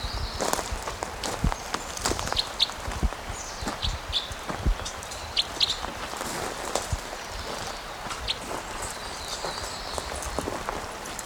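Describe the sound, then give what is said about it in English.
Footsteps crunch along at a steady walking pace, fairly loud, each step a short scuffing impact, as someone walks toward a perched bird, while faint high chirps flicker in the background. “Okay, so I'm walking towards him again.”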